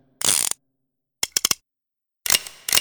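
A revolver's metal cylinder spins with a bright ratcheting whir, then a quick series of sharp clicks, followed by another loud spinning rattle; no talking.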